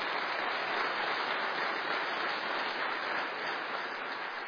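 A crowd applauds in a dense, steady wash of clapping that holds at an even, fairly loud level for several seconds without pause or voices.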